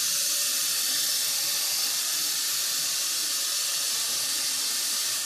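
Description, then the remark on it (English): Steady white noise hisses on without a break, a bright, even static like an untuned television, loud and unchanging for several seconds with no voices over it. “Just white noise. It's like turning on a TV station and there's no station there.”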